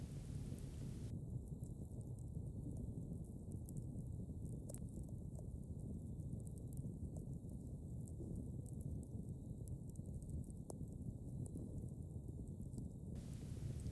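A fireplace crackles steadily, a dense low rushing roar broken by a few sharp, scattered pops, with no voices.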